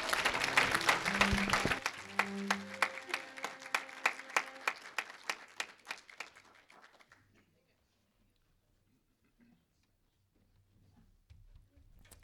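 An audience applauds with a dense burst of clapping that gradually thins into scattered individual claps and dies out after about seven seconds, leaving near silence with faint low rumble.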